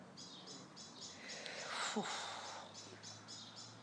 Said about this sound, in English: And they're so loud, they actually start to give you a headache. Yeah. So, any answers as to what those birds are?